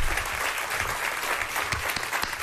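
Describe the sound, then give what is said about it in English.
Steady audience applause at the presentation of the gold iPad Air 2: a dense, even wash of many hands clapping at a fairly loud level throughout, with a few sharper individual claps standing out and no voices over it. “I have to applaud, too.”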